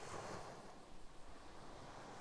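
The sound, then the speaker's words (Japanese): Ocean waves wash in and out with a steady, broad rushing hiss, swelling slightly and easing back in an irregular rhythm, with some wind buffeting underneath and no voices. “それも寄せては返す波、見ているだけでなぜだか胸のあたりが温かくなる気がします。”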